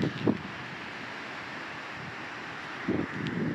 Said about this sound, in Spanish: Así suena el mar de esta hermosa playita, que no diré cuál es, porque no quiero que los haters me vengan a molestar.